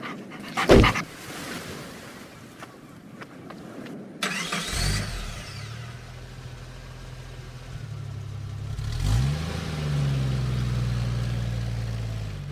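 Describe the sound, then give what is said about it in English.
A male dog gives a sharp bark-like burst, then a flapping rattle as it shakes itself off and pants, before a car engine starts and settles into a steady low hum with no talking. “Here, boy. There's a good boy. Ah, don't go shaking yourself all over me like that”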